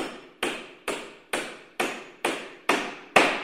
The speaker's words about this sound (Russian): Что это стучит? Да это стучит молоток.